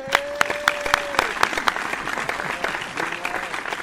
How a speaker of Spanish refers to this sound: Un aplauso.